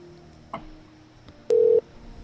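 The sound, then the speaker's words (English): A telephone line tone from a phone call that is not being answered sounds once, a short, loud, steady electronic beep over a faint background hum, with a soft click just before it and no voices. “I don't think this is answering.”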